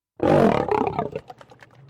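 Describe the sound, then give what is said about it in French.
A lion lets out a loud, deep roar that starts abruptly, rumbles for about a second, then tapers into a few short grunting breaths. “Voici le lion, le roi des animaux.”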